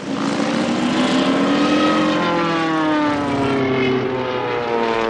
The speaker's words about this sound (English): Stop that airplane! Stop that airplane! We're trapped!